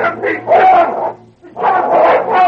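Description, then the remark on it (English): A dog snarls and growls ferociously in two loud, rough bursts separated by a brief pause, sounding like a vicious attack, as it leaps at a man and knocks him to the ground. “King struck Mike Burry with a force that knocked the man to the ground.”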